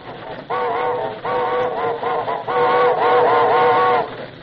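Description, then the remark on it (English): A steam locomotive whistle blows on a train approaching a trestle, in a series of loud, chord-like blasts: three short toots, then one long, sustained wail, with a faint rumble of the train underneath. “Blow the whistle!”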